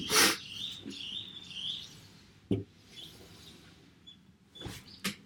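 Wild birds chirp and trill loudly outdoors in fine weather in a steady, overlapping chorus, with a few sharp knocks breaking through. No one speaks.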